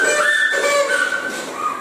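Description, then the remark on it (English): A whistle is blown during a Bible quiz in one sustained, fairly loud note of about two seconds, its pitch wavering slightly, with no voices alongside it. “Ready for the whistle still?”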